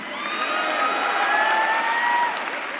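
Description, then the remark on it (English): A crowd at a revival meeting in Worcester cheers and applauds for Canada, a dense wash of clapping with shouts and high whoops rising over it, loud and sustained before easing slightly at the end. “Come on, somebody shout for Canada.”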